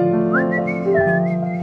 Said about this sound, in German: Der war falsch gepfiffen, aber.